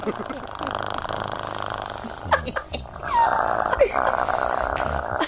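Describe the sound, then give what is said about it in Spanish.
A man's voice imitates a six-month-old salt-and-pepper miniature schnauzer: a rough sustained growl followed by a few short sharp yips and whines, fairly loud. “Schnauzer miniatura, sal y pimienta, 6 meses.”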